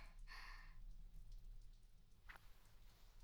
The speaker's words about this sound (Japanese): 雨も止みそうにないし、キモいやつはいるし、寒いし。